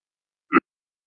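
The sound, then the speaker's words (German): A single short cough, one sharp, fairly soft burst with no voices around it and silence before and after. “Sorry, musste gerade husten.”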